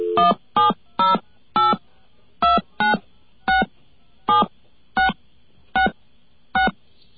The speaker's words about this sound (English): Okay, there's a number in Chicago. Let's get a dial tone.